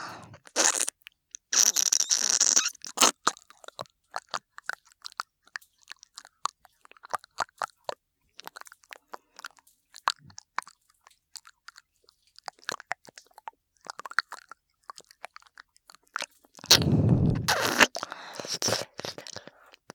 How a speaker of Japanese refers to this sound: お耳ペロペロ。気持ちいいでちゅか。